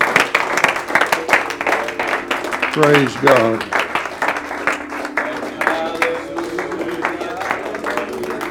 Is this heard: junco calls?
no